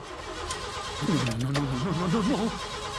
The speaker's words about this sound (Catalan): Intenta arrencar el cotxe.